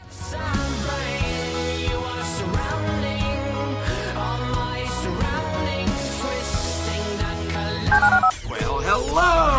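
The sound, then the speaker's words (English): A steady run of telephone keypad tones, beeping one after another in quick stepped succession, loud, with a brief warbling burst near the end and no voices, as a phone number is dialed. “To call into the HR&P listener line, dial 713-780-ESPN. Dial the phone.”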